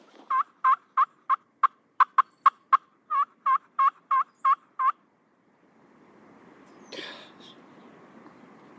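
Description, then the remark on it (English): A turkey lets out a loud gobble, a rapid rattling string of about a dozen notes, then the call stops and soft rustling noise follows with one brief sharp burst. “Even the dogs here. Turkey.”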